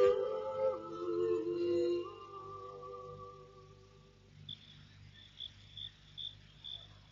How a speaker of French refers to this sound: Dans la maison de Marie, comme dans tout le village, est tombé le silence de la nuit. Au loin, quelques aboiements, des bruissements d'insectes.